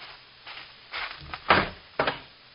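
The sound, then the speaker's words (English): The door of a sheriff's office is opened: a rattle of handling followed by a few solid wooden clunks about half a second apart, with no voices. “Open the door.”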